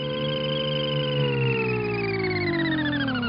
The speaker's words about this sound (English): The sound of the family's flying car in the animated 1960s TV series The Jetsons.